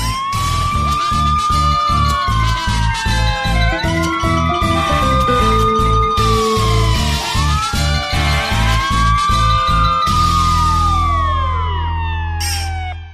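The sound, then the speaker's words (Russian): Several sirens wail at once, overlapping rising and falling tones from two fire engines and an ambulance pulling up to a house, loud over a rumbling engine, continuing for the whole stretch without any talking. “Тут к дому, мигая и воя, подъехали две пожарные машины и одна скорая помощь.”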